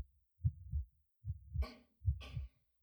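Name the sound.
human heartbeat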